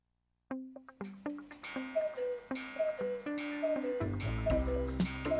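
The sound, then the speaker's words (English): A cuckoo clock ticks in steady beats, each tick mixed with ringing, bell-like tones that build into a busier, louder chiming pattern toward the end. No one speaks. “It's world famous for its cuckoo clocks, which have either 1 day or 8 day movements”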